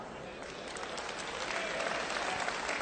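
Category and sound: crowd, audience clapping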